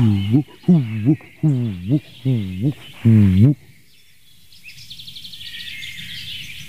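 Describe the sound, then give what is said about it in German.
A dove of another species coos loudly near Buchenbruch, just outside an orchard meadow, five throaty, wavering notes in a steady rhythm, then falls silent while faint high-pitched chirping and buzzing continue in the background. “Eine weitere Taubenart hier auf dem Platz.”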